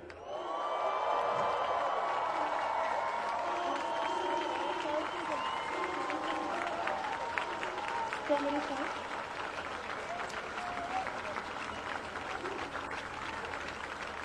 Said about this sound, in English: so we need to send a big cheer to everyone on Gadigal land. 1, 2, 3.